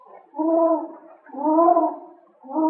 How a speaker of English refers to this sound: Listen. What's that? Just a hoot owl hooting.